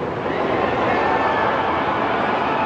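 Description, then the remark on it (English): The North Tower collapsing in a deep, sustained rumbling roar, a dense wall of noise that holds steady and loud throughout without letting up. “9 seconds later, the North Tower falls.”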